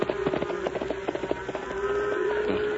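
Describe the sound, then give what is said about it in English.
Horse hooves clip-clop in a quick, steady rhythm, strongest early on and fading, over a thin continuous drone like buzzing insects, as a horse is urged up a hill at night. No voices are heard. “Come on, horse. Up the hill.”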